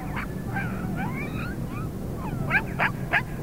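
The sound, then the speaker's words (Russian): A thin, hungry grey dog whimpers in a series of thin, high, wavering whines that slide up and down, ending with three sharper yelping cries over a low steady rumble. “Бедный, худой какой. Хороший, хороший пес.”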